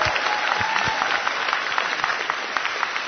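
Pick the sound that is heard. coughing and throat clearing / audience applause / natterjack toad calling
audience applause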